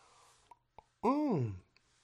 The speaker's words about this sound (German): Ich trinke einen Schluck, Leute.